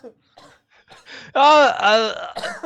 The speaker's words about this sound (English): He's about to be sick and then leaving the podcast. He's just pre-framing with some fucking coughs.